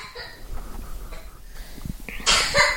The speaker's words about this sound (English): Poor thing, she's coughing.